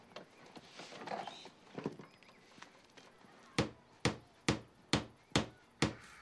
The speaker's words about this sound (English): As Vic walks away, Justin rolls back to the garage wall, grabs the hammer, and continues pounding the nail.